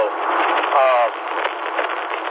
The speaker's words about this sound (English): Okay. Well, I'm holding it up at arm's length right now. And one of the issues is it's loud inside this truck.